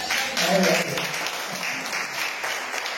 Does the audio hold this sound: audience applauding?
yes